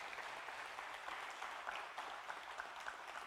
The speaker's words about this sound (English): Yeah, clap it. Clap it out right there.